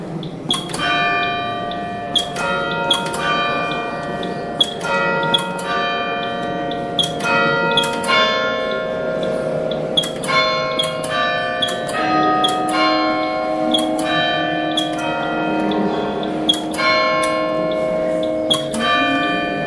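Carillon bells ring out a melody, each struck note sharp and bright, ringing on with long overlapping tones in a steady, unhurried rhythm, loud with no voices.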